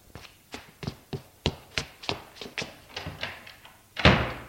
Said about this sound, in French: sort de la pièce en courant, en claquant la porte.